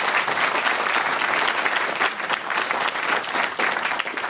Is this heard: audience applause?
yes